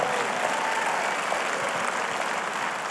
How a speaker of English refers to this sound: Come on, if you believe it, clap your hands. I need some faith in Springfield.